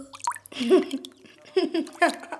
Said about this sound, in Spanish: Ah, está mojado. ¿Qué es esto? ¿Y qué va a ser? Agua fresca para la hora de la siesta. Agua de pozo para salpicarte un poco.